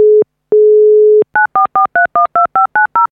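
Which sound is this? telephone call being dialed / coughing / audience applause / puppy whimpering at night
telephone call being dialed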